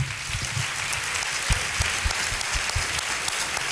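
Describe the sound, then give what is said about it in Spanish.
An audience at a flamenco gala applauds a guitarist steadily, a dense wash of many hands clapping at an even loudness with scattered sharper claps standing out, and no voices over it. “Así que un aplauso para”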